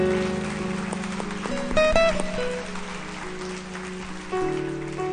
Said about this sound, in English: Yeah, let's give a hand clap for those who prayed that prayer.